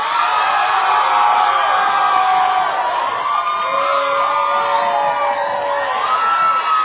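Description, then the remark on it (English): A church audience during a sermon shouts and cheers loudly and continuously, with rising whoops and yells blending into a dense, sustained roar for several seconds. “Somebody just shout real loud.”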